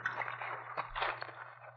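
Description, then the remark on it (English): Soft, sloshing water splashes and drips as a person crawls out of the water onto a bank, with a couple of slightly sharper splashes midway, fairly quiet over a low steady hum. “Now, crawl out of the water.”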